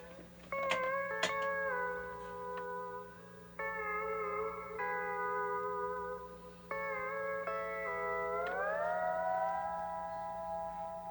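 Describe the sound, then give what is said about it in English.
A sustained, wailing instrument tone with an echo effect, holding steady notes that jump between pitches and slide upward near the end, over a steady low hum with no talking. “We've also added echo to it, as you can hear.”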